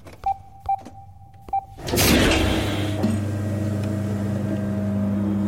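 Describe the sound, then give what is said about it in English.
Three short electronic beeps, then a large metal sliding door bursts into motion with a loud rush, settling into a steady low mechanical rumble and hum as it keeps opening. “As the door slid open, lights illuminated a large figure.”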